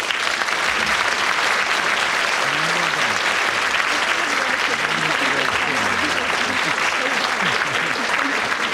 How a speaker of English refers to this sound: Thank you. On behalf of our winner, very much for that applause.